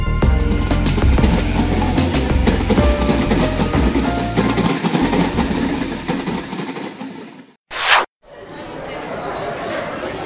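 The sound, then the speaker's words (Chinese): A train rolls steadily along the rails with a loud, continuous rumble and rattle, a short sharp burst near the end, and faint murmuring voices underneath. “上一集咱们说到，阿林通过网上的寻人启事，得知在悉尼东区确实有一名住户叫胡志兴，虽然可能是重名重姓，但阿林第二天还是决定亲自坐火车登门拜访。”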